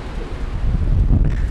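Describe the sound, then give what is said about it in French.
Strong wind buffets the microphone outdoors under a grey sky in a continuous low rumble, loud and steady with gusty surges, and no voices are heard. “Ouais le vent il est un peu fort.”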